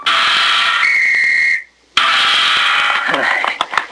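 A single steady whistle blast rings out for under a second over loud, hissy background noise, then everything drops to a brief silence before the rough noise returns; a performer blows the whistle during a show trick of tossing a ball, turning a somersault and catching it on the nose.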